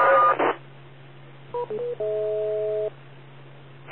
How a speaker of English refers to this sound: And try to remember to listen for the beep, if at all possible, with these sounds in the background.